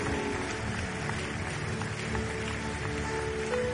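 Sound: audience clapping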